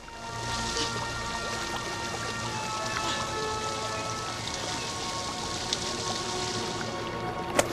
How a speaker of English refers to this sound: He has fallen into a pool of water. Water trickles down the mossy sides of the tree.